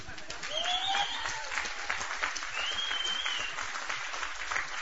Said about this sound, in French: C'est pas moi que vous applaudissez. C'est celui qui m'a libéré.